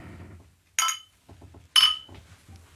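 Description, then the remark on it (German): Glasses clink together twice in a toast, about a second apart: bright ringing taps that fade quickly, with a soft low rumble and faint background movement around them. “Ja, Prost. Prost.”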